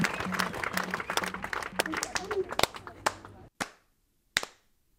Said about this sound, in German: Das waren noch Zeiten, als die Menschen auf den Balkonen standen und für die Pflegekräfte klatschten, die auf den Corona-Stationen ja rund um die Uhr gearbeitet haben, auch natürlich unter Vollschutz bis zur Erschöpfung, manchmal und auch sogar